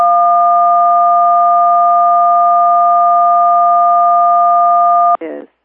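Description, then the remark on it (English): A loud, steady electronic beep from a phone handset on a call drones at one unchanging pitch for about five seconds, then cuts off abruptly into a short, garbled burst of noise. The beeping had recurred intermittently for 10 to 15 minutes. “This beeping's been going on intermittently for like 10, 15 minutes.”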